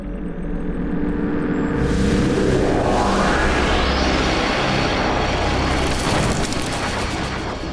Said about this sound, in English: And then you force your way through, and this place shatters around you.